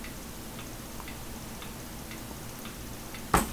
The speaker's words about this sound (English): That clock ticking you hear in the background, that's her biological clock.